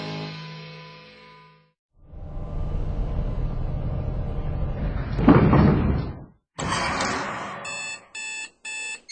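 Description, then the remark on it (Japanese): A security door, the fourth door, opens after fingerprint and retina authentication clear: electronic tones, then a long heavy mechanical slide with a loud clunk, followed by a bright warbling signal and three short rhythmic beeps, fairly loud with no voices. “指紋認証クリア。網膜認証クリア。第4ドアオープン。”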